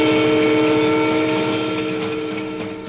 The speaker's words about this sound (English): Watch out for the train.